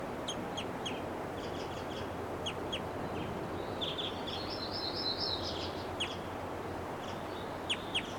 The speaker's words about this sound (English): Now she gave a flight call, now she's itching her face. That was her. There's some flight calls there.